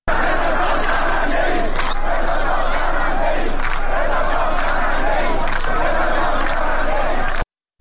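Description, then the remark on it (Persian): A large crowd of protesters in Izeh, eastern Khuzestan, Iran, chants slogans such as "Death to Khamenei" in loud unison, many voices rising and falling in a steady rhythmic pattern for several seconds before cutting off abruptly. “بر اساس ویدیوهای انتشار یافته در شبکه‌های اجتماعی، معترضان در شهرستان ایذه در شرق خوزستان شعار مرگ بر خامنه‌ای سر دادند.”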